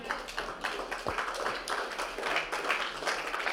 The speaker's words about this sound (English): Okay, thank you for the sympathy clap in the first two rows.